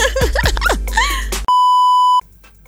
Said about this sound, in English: Stay tuned after the beep.